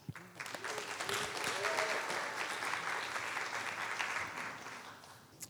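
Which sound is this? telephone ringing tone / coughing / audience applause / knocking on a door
audience applause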